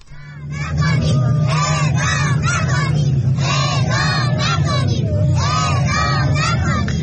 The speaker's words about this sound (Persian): بنا بر گزارش‌ها این تجمع با حضور چند صد نفر از بستگان زندانیانی که در جرایم عادی محکوم به اعدام شده اند برگزار شد. در ویدیوهایی که از این تجمع منتشر شده صدای گریه برخی زنان حاضر در تجمع شنیده می شود و کودکان نیز فریاد می زنند اعدام نکنید.